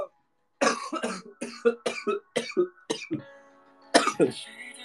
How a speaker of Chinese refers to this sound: 哎呀，有一丢丢，有一丢丢咳嗽，一丢丢，但不多。